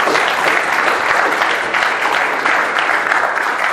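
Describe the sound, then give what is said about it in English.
An audience claps steadily in a round of applause, a dense, loud wash that holds evenly for several seconds with no voices standing out. “Can you give him a round of applause?”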